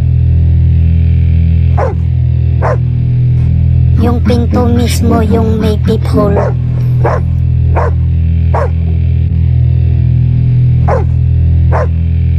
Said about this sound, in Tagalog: Tumatahol yung aso namin. So ako, pinuntahan ko yung ano yung tinatahulan niya.